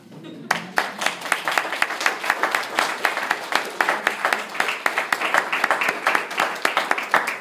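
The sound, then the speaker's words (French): An audience bursts into sustained applause for the elders present that morning, many hands clapping in a dense, steady patter with sharper individual claps standing out, continuing without letup for several seconds. “Et je voudrais simplement donc, qu'on prenne un temps à penser à nos anciens ici présents ce matin et qu'on puisse simplement les applaudir quelques secondes.”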